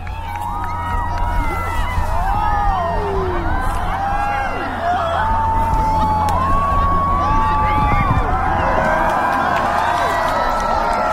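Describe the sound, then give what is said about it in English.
A large crowd at Marcy Field in Keene cheers and whoops continuously as the moon entirely eclipses the sun at totality, many overlapping voices rising and falling in excited shouts, loud and sustained throughout with a steady low rumble beneath. “And then as the moon entirely eclipses the sun, a wave of something, emotion, energy, wonder, rolls through the crowd.”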